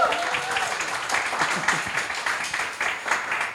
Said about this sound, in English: And just a big thank you to this incredible panel as well, because I think we had a really lovely conversation. So big round of applause for my panel, please.